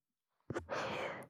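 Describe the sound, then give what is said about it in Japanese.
A single breathy exhale blown into the microphone as an ASMR breath sound, a soft huff at the start swelling into a steady airy rush for under a second, then cutting off. No talking. “次の吸い込み耳なめと吐息レロレロ。”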